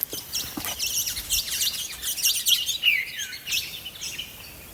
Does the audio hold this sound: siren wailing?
no